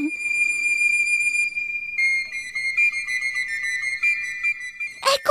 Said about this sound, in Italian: Sì, cuccioli, lo conosco bene quel fischiettare melodioso.